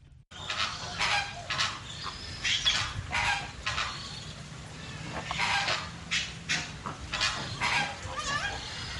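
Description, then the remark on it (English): A flock of flamingos at the World of Birds Wildlife Sanctuary honks and gabbles continuously, many overlapping calls over a steady outdoor background, with no voices. “Yes, the flamingos are right there.”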